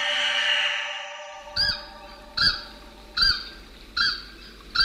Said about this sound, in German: It's a little bit like the honking of a goose. Ihr Ruf klingt ein bisschen wie das Tröten einer Gans. Ihre Revierrufe und ihre Laute, mit denen sich Partner gegenseitig rufen. Man hört sie über große Entfernungen.